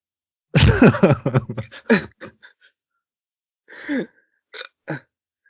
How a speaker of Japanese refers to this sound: 昨日からしゃっくりが止まらなくて、なんとか直そうと思ったんですけど、もうやっぱ無理で。ほんと苦痛なくて今。 ええ、 なんか年に一回ぐらいあるんですよ。その合わない炭酸飲んだら出ちゃうっていう。